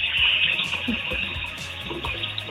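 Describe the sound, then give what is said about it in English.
Steady running water pours continuously from a tap as someone washes the dishes, a bright hissing rush that stays even for the whole moment, with faint low murmurs underneath. “That's running water.”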